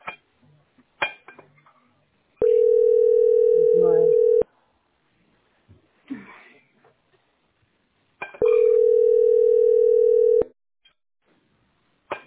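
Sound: telephone ringing tone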